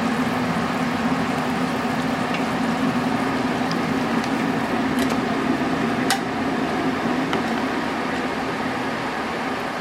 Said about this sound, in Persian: و بعد دونه دونه وقتی میداره میجوشه ما کوفته رو بهش اضافه میکنیم.